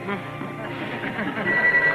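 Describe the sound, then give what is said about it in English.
A telephone rings toward the end, a steady high trill rising under overlapping voices and background chatter, all with a thin, muffled, old-recording quality. “you going to answer the phone?”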